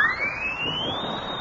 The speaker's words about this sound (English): Hey, look at this horn. It's got a siren in the mouthpiece. Listen.